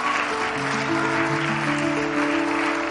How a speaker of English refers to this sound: Come on, folks, let's clap.